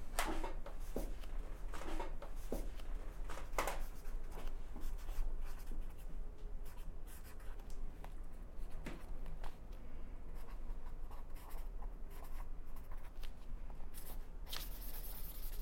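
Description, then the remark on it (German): A pen scratches across paper in short, irregular strokes, with little scrapes and pauses as someone writes an entry in a guestbook by hand; no one speaks. “Und deshalb dürfen Sie sich jetzt natürlich auch in unser Gästebuch der Riesen eintragen.”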